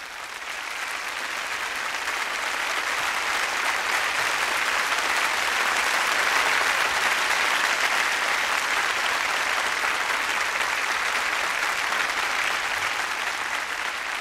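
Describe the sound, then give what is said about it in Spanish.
Sustained applause from a large concert audience as conductor Gerard Schwartz takes the podium to lead the Seattle Symphony Orchestra in Sheila Silver's Shirat Sara: a dense, steady wash of clapping that swells slightly and holds for the whole stretch, with no voices standing out. “En el escenario, Gerard Schwartz, con los aplausos del público, sube al podio, desde donde dirigirá a la Orquesta Sinfónica de Seattle en la interpretación de Shirat Sara de Sheila Silver.”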